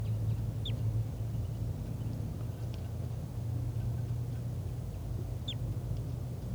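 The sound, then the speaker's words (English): Two short, high, downward-sweeping bird chirps, spaced several seconds apart, sound over a steady low rumble of background noise. No one speaks. “I'm not sure which bird is giving flight calls. I think it's the wild bird.”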